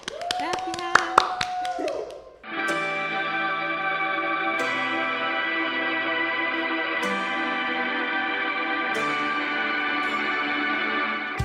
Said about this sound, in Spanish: Un aplauso ficticio para Emma.